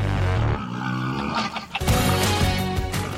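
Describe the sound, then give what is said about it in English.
Hyenas and wild pigs call out in rough, growling cries that rise and fall, with a harsh burst midway, over a steady humming tonal backdrop of a remixed music track. No one speaks. “it sounds like the hyenas and the wild pigs that are in there are almost musical collaborators.”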